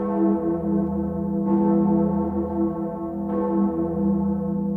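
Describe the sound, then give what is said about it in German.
The great bell of Erfurt Cathedral in Erfurt, Germany, cast in 1497 and weighing over 11 tons, tolls with a deep, sustained hum, heard on the cathedral square. It is struck again about every two seconds, so each new clang rises over the still-ringing drone. Loud, with no voices. “Das auf dem Domplatz in Erfurt zu hören, diese Glocke, das, ja, körperlich, geistig, seelisch, ist einfach ein Klang, dem man sich nicht entziehen kann.”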